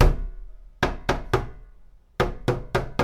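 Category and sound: household object, knocking on a door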